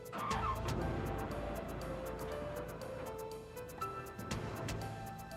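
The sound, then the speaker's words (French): A red Corvette's engine roars steadily for several seconds as it leaves a motel, a deep throaty rumble with a brief tire squeal near the start as the car pulls away. No one speaks. “Un homme aux cheveux foncés et portant une moustache quittait les lieux au volant d'une Corvette rouge.”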